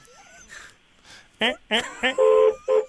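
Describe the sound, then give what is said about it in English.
A vehicle horn beeps three short times in quick succession, one for each of the driver's three kids, then sounds in longer, steady blasts, a long one for his wife, with faint talk before the honks. “why don't you beep the horn 3 times very shortly and just say that's one for each one of your kids.”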